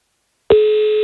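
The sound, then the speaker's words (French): After a brief silence, a telephone ringing tone starts abruptly on an outgoing live call to a prize draw winner, the second ring: a steady, loud electronic beep that holds without a break to the end, with no voices. “Deuxième sonnerie.”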